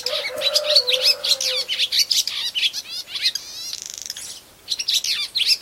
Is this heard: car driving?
no